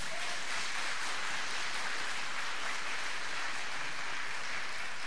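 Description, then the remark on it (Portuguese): An audience applauds the Lord during a church service after a prayer, many hands clapping in a dense, steady wash of sound that holds evenly for the whole stretch without any voices over it. “Aplauda ao Senhor aí.”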